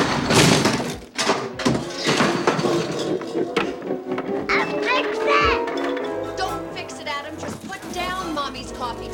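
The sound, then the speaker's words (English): A heavy door, which Wayne drops, hits the floor with a loud thud, amid several other bangs and clatters while voices shout and talk excitedly. “Adam bangs the door into Wayne's head, then sits and crushes a chair. Wayne drops the door.”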